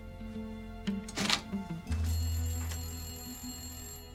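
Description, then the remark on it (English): A telephone bell rings steadily for a couple of seconds and is ignored, preceded by a few clattering thumps, then the ringing slowly fades. No one speaks. “Ignoring the phone for a moment”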